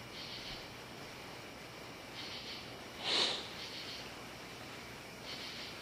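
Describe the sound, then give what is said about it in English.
Someone sniffles a few times, with one sharper, louder sniff near the middle and softer ones around it, all over a steady background hiss. No one speaks. “That was me sniffling, sorry.”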